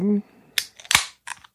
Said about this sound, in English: that beer that just opened up.